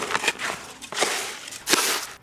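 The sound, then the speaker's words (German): Gritty, scraping bursts of a mason's trowel mixing ready-mix concrete and water in a plastic mason's tub, three broad strokes in a loose rhythm, fairly loud, with no voices. “Und den gerade gut mischen.”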